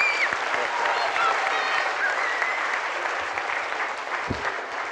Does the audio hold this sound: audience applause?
yes